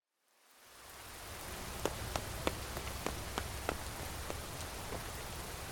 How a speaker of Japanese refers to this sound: なんじゃ、雨宿りか。軒先にいたとで濡れてしまうじゃろ。